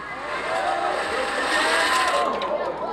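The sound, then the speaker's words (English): Small, brightly colored wooden Pinewood Derby cars whir loudly down a four-lane racetrack past a nearby microphone during Cub Scout and Girl Scout heats, a steady rolling hum with sweeping pitch glides as they pass, with indistinct voices murmuring in the background. “Heats were run on the four-lane racetrack both days as the brightly colored wood cars whizzed past a nearby microphone.”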